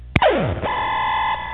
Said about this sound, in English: Party alarm! Okay, so that's loud. It tells you. You definitely know your turn's over.